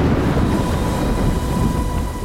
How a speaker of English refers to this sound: Lele heard the deafening crack of thunder.